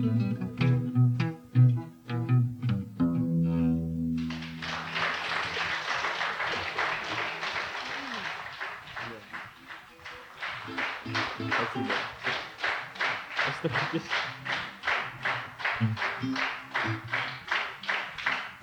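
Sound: audience clapping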